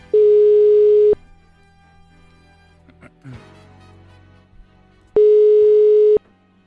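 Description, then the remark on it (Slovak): A telephone ringback tone while a call is placed to a hotel, to the hotel director's phone: two steady one-second buzzing tones, loud and clear, separated by about four seconds of near-quiet line. “Je tu ten čas, keď ideme volať do hotela, konkrétne do telefónu riaditeľky hotela”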